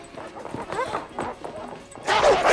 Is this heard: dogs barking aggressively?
yes